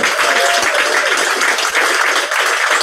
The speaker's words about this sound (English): Thank you all for being here. Thank you all who contributed. It's been absolutely brilliant. Can we get one more massive round of applause for our two Coventry guests?